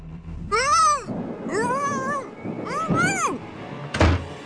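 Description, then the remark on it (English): A cat meows three times in a row, loud, each call a drawn-out whining rise and fall, followed by a short dull thump at the end. “Or maybe you're having a tough time deciding what to do with the stray cat that's keeping you up all night.”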